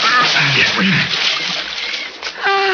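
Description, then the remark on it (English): A boat is put into the Sepik River with a loud, rushing splash of churning water that lasts a couple of seconds, with brief voices heard at the beginning and end. “We set up four boat in just 9 minutes. Okay. We put her in river.”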